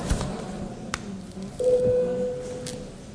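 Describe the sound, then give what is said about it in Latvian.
A parliament voting bell, called for as deputies vote on adopting bill 168 amending the law on support for the unemployed and job seekers, sounds as one steady, mid-pitched electronic tone lasting about a second, preceded by a couple of soft knocks against low murmur, with no one speaking. “Lūdzu zvanu.”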